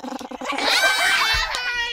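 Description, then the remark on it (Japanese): A child's voice imitates a sheep's bleat for the Year of the Sheep, a wavering, drawn-out "baa" that follows a few short choppy syllables, fairly loud. “では、羊の鳴き真似をどうぞ。”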